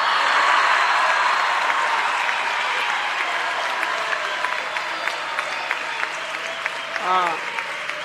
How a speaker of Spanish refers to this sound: Gracias y un aplauso bien grande para todo el equipo del gobierno de la ciudad.